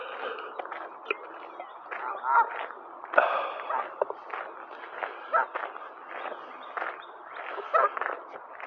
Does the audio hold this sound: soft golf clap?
no